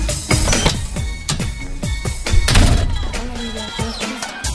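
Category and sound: household object, door being opened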